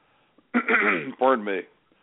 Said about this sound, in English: Pardon me, Zachary, I've got a a little cough going here this morning.